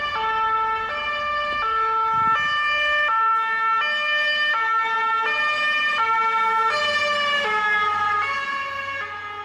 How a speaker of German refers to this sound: Habt ihr gehört, dass die Sirene sich verändert? Also es ging nicht nur so ta-tü, ta-tü, ta-tü, ta-tü, sondern es ging so ta-tü, ta-tü, na.